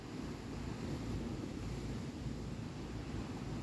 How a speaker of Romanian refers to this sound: Mulțumește valurilor pentru că preiau totul de la tine.